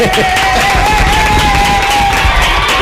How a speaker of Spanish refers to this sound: Enhorabuena, felicidades y aplauso.